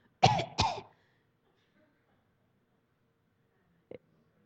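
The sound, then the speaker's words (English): Two loud coughs in quick succession from a person who thinks they are catching the flu, followed by a long quiet pause and a faint short click or throat sound near the end. “I got a cough. I think I'm catching the flu.”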